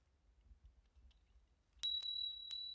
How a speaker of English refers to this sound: Ah! The bell! You called for me, my lady.